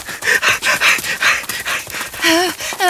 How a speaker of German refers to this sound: Da! Hörst du das? Dieses Geräusch! Das Ungeheuer knurrt uns an! Es will uns angreifen!